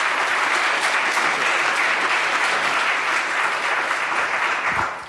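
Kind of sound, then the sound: crowd, audience applause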